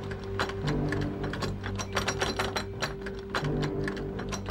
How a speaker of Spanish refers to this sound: Al mirar por la mirilla, notó que un hombre intentaba forzar el cerrojo.